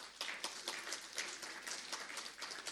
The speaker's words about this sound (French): Je vous propose d'applaudir, monsieur le président ukrainien.